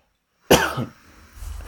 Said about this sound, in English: I'm just on the back end of a cold, so if you hear a cough, I do apologise.